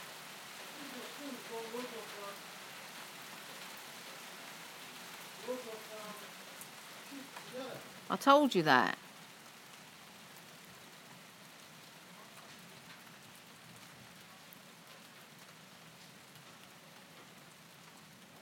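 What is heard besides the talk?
rain falling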